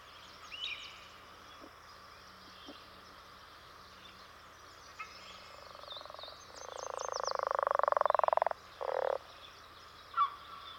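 A leopard frog gives its deep territorial song: a long, rattling snore-like croak that swells louder over about two seconds, followed by a shorter grunting burst, with faint bird chirps in the background.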